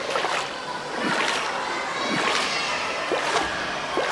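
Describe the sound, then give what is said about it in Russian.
Water sloshes and splashes in a steady, rhythmic pattern of swimming strokes in a pool of warm, salty mineral water, fairly loud, with a constant wash of water noise underneath and no voices. “Поплыли. Здесь еще проход в другой бассейн есть.”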